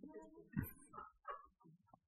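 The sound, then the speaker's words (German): Several sheep bleat in quick succession, wavering, nasal cries overlapping one another at moderate volume, like a flock calling in a stable. “Das ist schön in einem Stall, wo alle Mäh machen.”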